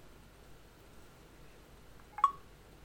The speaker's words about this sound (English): Okay, now this time I'm going to press the digital crown twice.